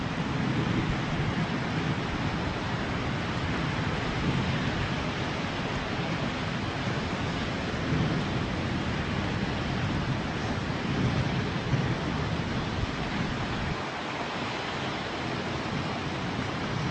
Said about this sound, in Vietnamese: Thở vào và ra, tôi biết rất rõ là tôi đang nghe những tiếng sóng vỗ bờ.